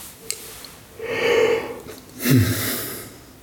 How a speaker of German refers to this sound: Bach gähnte schon wieder.